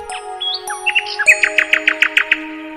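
nightingale chirping

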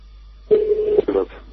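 telephone dialing tones

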